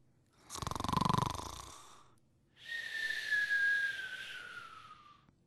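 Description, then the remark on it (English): A single loud snore from a person asleep in bed at night: a rough, rattling inhale followed by a long, high whistling exhale that slowly falls in pitch, with no talking. “Then I start to dream and snore some more.”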